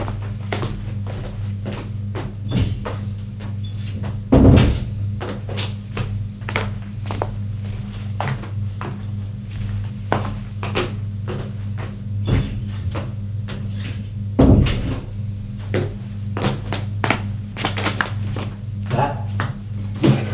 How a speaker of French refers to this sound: Elle ouvre le secrétaire et cherche dans les papiers. Elle trouve des tas de choses, sauf le papier de la sécurité sociale de son fils.